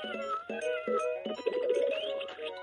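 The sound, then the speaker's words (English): A talking cat toy, its volume turned up, meows repeatedly in quick, fairly loud electronic bursts, with a longer warbling meow near the end. No one is talking. “The cat says rate me”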